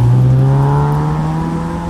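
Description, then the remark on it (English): An MG Midget sports car's engine drones steadily on a timed sprint course at an MG car club sprint at Kerber Sprint near Lichfield, on part of an old airfield: a low harmonic hum holding constant pitch with a faint rising whine, loud and continuous with no voices. “So I'm just watching a little MG midget come around the course.”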